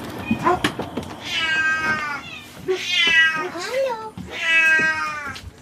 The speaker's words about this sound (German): Und so kommen wir dann nach einem Abstecher bei den AIDS-Katzen und den Junioren auf dem oberen Geländeteil zur Krankenstation. Ja, hier wird jetzt endlich auch mal gemaunzt. Hier wird aber schwer gemaunzt.